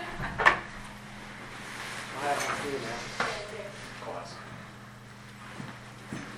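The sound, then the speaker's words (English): A door shuts with a sharp thud, followed by a few softer clicks and rattles as it is locked, over a steady low hum and faint background voices. “lock the door now, right?”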